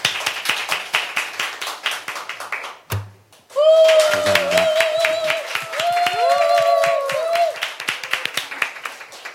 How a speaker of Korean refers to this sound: 박수로 맞아주세요.